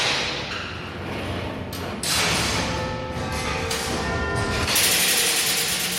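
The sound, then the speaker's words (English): The wheels and ironwork of the Big Ben clock mechanism turning as the quarter past the hour chimes begin, driving up to the link room and the quarter bells: a steady metallic rumble and grinding, faint whining tones and occasional clunks, swelling louder in surges partway through and near the end. “We're now coming up to the quarter past the hour chimes, with the wheels and the ironwork going round that go up to what we call the link room, and then they go up to the quarter bells upstairs.”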